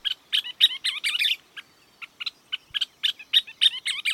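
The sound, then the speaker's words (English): A scissor-tailed flycatcher calls in a rapid series of sharp, bright chattering notes, clear, with short pauses between bursts and no other sounds around. “That's one of the country's most unforgettable birds, a scissor-tailed flycatcher.”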